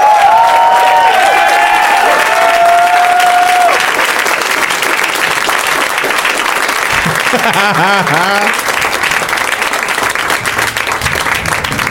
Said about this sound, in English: I was telling them backstage that the applause, like for listeners, goes on for a really long time because the guests, they're backstage kind of enjoying each other.